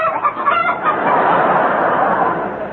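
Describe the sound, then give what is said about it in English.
A chicken-cackling sound effect in The Goon Show, played as the noise of a pair of red flannel drawers: loud, rapid clucks rising into a sustained, squawking clamor, busy and insistent throughout, with no voices alongside it. “a good laugh and a pair of cackling drawers”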